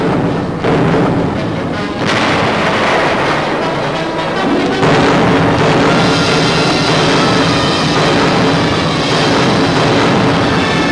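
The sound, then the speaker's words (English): Heavy naval guns on warships off the east coast of Korea fire a few thunderous booming blasts at communist railway lines during Operation Strangle, each rolling into a dense, continuous roar of rumble and echo that stays loud throughout, with no voices. “The big guns speak.”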